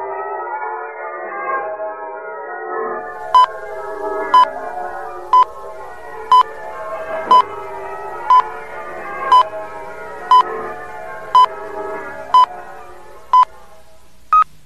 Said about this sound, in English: Check your time with the LM chime. It is exactly 12 noon.